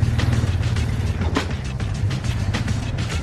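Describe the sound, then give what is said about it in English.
A lumbering farm tractor from the Midwest, driven slowly and used to turn two paddle wheels. Its engine runs steadily, a deep, throbbing low rumble with a rough mechanical clatter on top. It stays fairly loud and even throughout, with no voices. “It's a lumbering farm tractor straight from the Midwest, perfect to turn two paddle wheels.”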